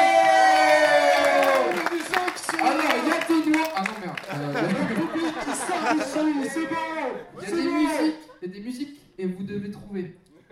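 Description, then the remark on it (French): A lively crowd cheers and chatters with overlapping voices, applauding new arrivals, loud at the start and then rising and falling in bursts of whoops before easing off near the end. “Et on applaudit les nouveaux arrivants.”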